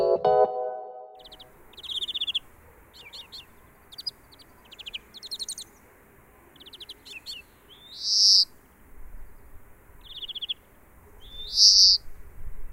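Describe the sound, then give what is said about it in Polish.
A bird calls repeatedly outdoors, sharp chirps and short trilled phrases at irregular intervals, with a few louder, clearer notes standing out over a soft, steady background hiss. “Z ptasiego na polski tłumaczy ornitolog Paweł Pstrokoński.”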